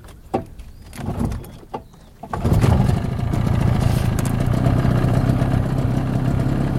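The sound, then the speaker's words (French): A boat engine is started, cranking and catching after a couple of seconds of quiet outdoor ambience with faint birds, then settles into a steady, loud idling rumble. “Je vais démarrer le moteur là.”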